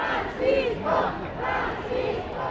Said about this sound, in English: Weeks of anticipation led to hours of flag waving and cheering along the Pope's route to the cathedral.